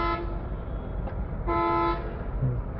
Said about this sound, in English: Yeah, you guys can hear the glorious Sri Lankan traffic where they love their horns here just to... It's just a different way that people drive.